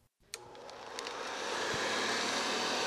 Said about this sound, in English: That sound may make you think of housework. After all, a vacuum cleaner's job is to clean. But to Mike Arrigo of St. Louis, it's music. Each one has a different pitch, and yeah, it does kind of create an image.